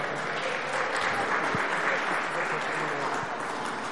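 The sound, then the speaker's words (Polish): Steady, dense applause from an audience congratulating an award winner, a continuous crackle of many hands clapping at an even loudness for a few seconds, with no voices standing out above it. “Bardzo, bardzo gratulujemy. Oklaski.”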